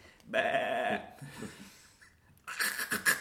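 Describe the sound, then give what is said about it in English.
A sheep bleats twice: a drawn-out, wavering call lasting about a second, then a quieter pause, and a second shakier, higher bleat at the end. “So once again, we have our playful sheep.”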